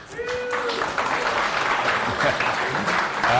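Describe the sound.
An audience in a community dev room applauds steadily for a few seconds to welcome a speaker, a dense, even wash of many hands clapping at once, with a brief high tone and some murmuring voices mixed in beneath.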